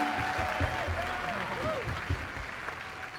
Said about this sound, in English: Oh, darling, clap if you must. If you must. Enough! Stop!